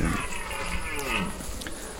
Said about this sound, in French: Et quand il pousse son brame, c'est comme des chants, en fait. Voilà, c'est comme des chants. Et avec la résonance de la forêt, ça prend une sacrée dimension.